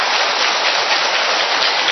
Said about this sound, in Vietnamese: Thưa anh chị em, một tràng pháo tay thật lớn cho những người biết tỉnh thức như vậy.